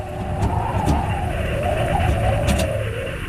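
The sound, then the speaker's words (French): Pickups, overloaded goods trucks and semi-trailers rumble steadily at walking pace along the RN16 road between Bamako and Gao, a continuous low engine drone with tire noise and a few brief higher clatters, with no one speaking. “Nous y croisons des pick-up, des camions de marchandises surchargés, des semi-remorques collés à la route qui avancent au pas, tour de roue après tour de roue.”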